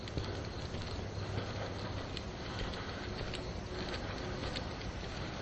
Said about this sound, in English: There's somebody's sprinkler on there. I think you can probably hear it.